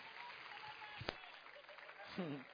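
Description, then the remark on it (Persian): A room full of people claps steadily, a dense, even patter of applause for a report given by two friends, while a voice briefly speaks over it near the end. “من گزارش هر دو تا دوستمون رو تشویق کنیم.”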